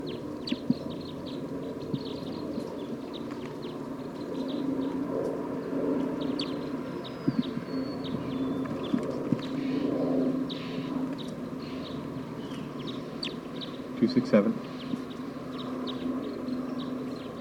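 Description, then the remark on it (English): A wild bird calls with faint, scattered high chirps and short whistles over a steady low rumbling background, with a sharper burst of sound near the end. “A wild bird just arrived on the scene. I don't know what call type it is.”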